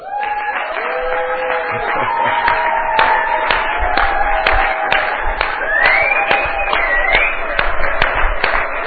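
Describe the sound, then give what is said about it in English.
An audience claps their hands for Jesus Christ in a loud, steady burst lasting several seconds, with sharp overlapping claps and raised voices calling out over the clapping. “When we clap hand for the King of Kings, we cannot sit down.”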